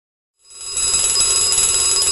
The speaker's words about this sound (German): Der Wecker klingelt.